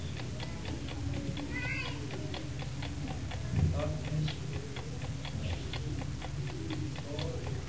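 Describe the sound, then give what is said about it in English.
A clock ticks steadily, quickly and clearly, with evenly spaced ticks running the whole time over a low, constant background hum. “You see, as I set that clock,”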